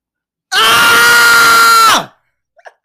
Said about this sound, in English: I don't know if he's excited about what happened, but you know, yell or something. You got a little scream out.